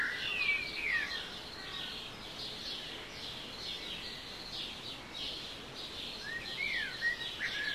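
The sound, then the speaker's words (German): Several birds chirp and trill against a steady outdoor hiss, with bright, quick whistled phrases near the start and again toward the end, moderately loud. No one speaks. “So zwitschern, auf Englisch twittern, sie Tag für Tag aufs Neue, ohne Computer und ohne Strom, aber voller Energie.”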